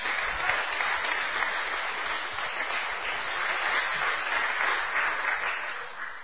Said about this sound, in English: Okay, teachers, look around. These hands that go up are because of your work. Thank you very much. So let's give our teachers one more round of applause, please.